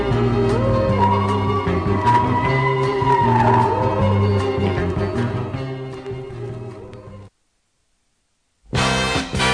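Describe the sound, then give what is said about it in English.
A purported Bigfoot scream: a long, wavering, mournful wail rising and falling over a loud, dense rumble. It cuts off abruptly into silence before a burst of loud noise returns. “Listen to Bigfoot, a mournful scream.”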